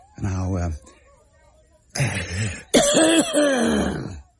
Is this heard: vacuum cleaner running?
no